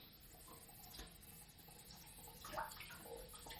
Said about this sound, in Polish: Ciągam rękawki, myję naczynia. Częściowo chociaż.